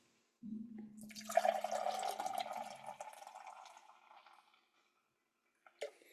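Finger Fudge beer pours into a Gateway Grizzlies pint glass in a steady stream for a few seconds, gurgling and fizzing before tapering off, followed by a brief light clink near the end.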